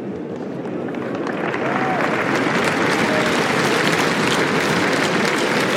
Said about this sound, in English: Félicitations encore une fois, Nastia. Merci d'applaudir, mesdames et messieurs. Anastasia Pavlyuchenkova, qualifiée pour les quarts de finale de Roland Garros.